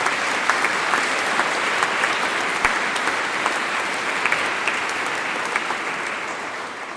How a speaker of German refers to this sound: Ja, vielen Dank, ihr Kindergartenkinder. Das war ganz, ganz toll. Ich denke, da dürfen wir euch ruhig mal klatschen. Ne? Können wir das mal machen?